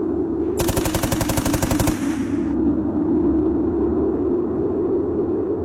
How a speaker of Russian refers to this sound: Его скашивает пулемет.